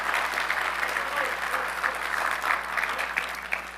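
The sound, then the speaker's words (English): An audience claps steadily for people receiving medals, a dense, sustained wash of applause with no clear individual voices standing out. “Let's give these a big round of applause.”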